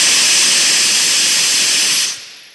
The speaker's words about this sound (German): Also Sie entlassen sozusagen Wasserstoff und testen, wie sich der Wasserstoff hier verhält, wenn man ihn rauslässt aus dem Druckbehälter? Richtig, das ist die Zielsetzung. Wir wollen wissen, wie er sich nach der Freisetzung im Grunde verhält,